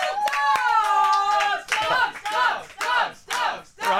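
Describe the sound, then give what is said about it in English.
A round-of-applause sound effect: clapping hands with whooping cheers and a whistle-like tone at the start, swelling in waves of noisy bursts over a few seconds. “Control round of applause for all dogs.”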